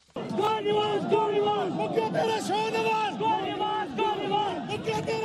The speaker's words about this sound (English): A crowd of supporters for Pakistan's prime minister chanting "Go Nawaz Go" as Pakistan's Supreme Court has disqualified Prime Minister Nawaz Sharif from holding office and ordered him to step down immediately.